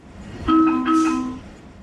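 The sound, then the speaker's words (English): Subway train ambience on the DC Metro: a steady mechanical rumble, then a loud, sustained electronic doors-closing alert tone in two overlapping parts lasting about a second, with a hissing burst before it fades. “It's a subway? It is. A specific sound for a specific subway.”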